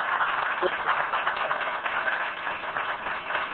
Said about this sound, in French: Je vous en prie, je suis content des applaudissements, mais je n'avais pas fini.